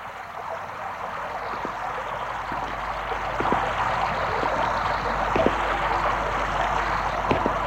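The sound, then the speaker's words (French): Steady rain falls outdoors on a deserted street in a continuous, even hiss, with scattered sharper drops pattering through it. No voices; the level holds constant, swelling slightly halfway through. “Une fois dehors, il pleut.”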